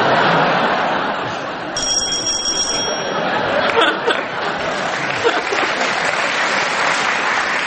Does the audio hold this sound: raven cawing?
no